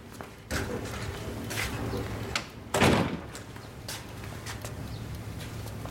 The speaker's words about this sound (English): Close the door.